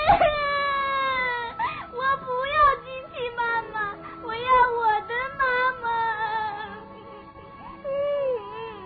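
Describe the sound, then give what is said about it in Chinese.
A young child, as the baby rabbit of a story, bursts into loud, sustained wailing, sobbing in rising and falling howls with brief catches of breath, filling the whole stretch without pause. “没等机器兔妈妈说完，兔宝宝哇的一声大哭起来。”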